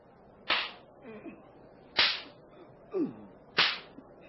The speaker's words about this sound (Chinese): 我虽然查不出他的过失，仍要下令鞭打他。士兵们，剥下他衣服绑在柱子上，开始用鞭子狠狠地打。